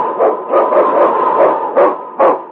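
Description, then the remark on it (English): King, the husky lead dog of Sergeant Preston in the radio show Challenge of the Yukon, barks loudly and repeatedly in a quick, steady series of sharp bow-wows, with no other sounds. “It's King, swiftest and strongest lead dog of the North Country, blazing the trail for Sergeant Preston of the Northwest Mounted Police in his relentless pursuit of lawbreakers.”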